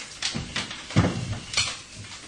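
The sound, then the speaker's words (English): A plastic cottage cheese packet is rustled and crinkled in four or five irregular, scratchy bursts, each with a soft thump of handling, moderately loud with no voices. “Now listen, look at that when you rustle that. When you rustle it, you get a peep.”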